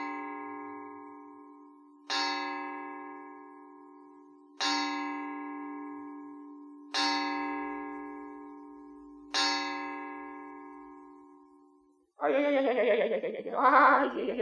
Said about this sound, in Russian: Вы слышали, часы пробили 5.